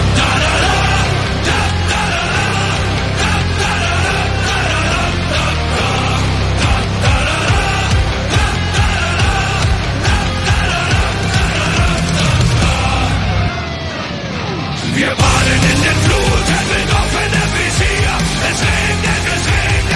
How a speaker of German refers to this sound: spielen einen Song.